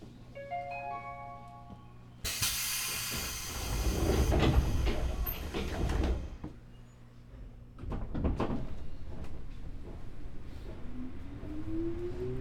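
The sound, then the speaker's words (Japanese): Train doors slide shut with a loud hiss and thud after a doors-closing announcement. A warning chime sounds at the start, followed by the rumble and rising whine of the train pulling away, next stop Hatchonawate station. “扉が閉まります。駆け込み乗車はおやめください。”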